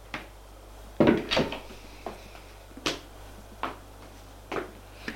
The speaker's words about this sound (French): Ils sortent de la chambre. Il ouvre une autre porte.